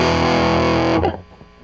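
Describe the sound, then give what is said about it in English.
A loud, thick guitar chord played through an Earthquaker fuzz pedal, drenched in dirty fuzz distortion, rings out for about a second, then cuts off abruptly, leaving a faint buzzy tail. “That's dirty, dirty fuzz box. Some Earthquaker box.”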